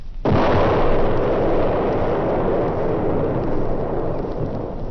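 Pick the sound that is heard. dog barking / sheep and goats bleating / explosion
explosion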